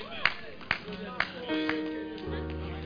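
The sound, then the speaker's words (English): About five people give a few scattered, distinct hand claps about half a second apart during an Easter Sunday sermon, moderately loud, with sustained keyboard-like tones droning underneath. “About five people clapped.”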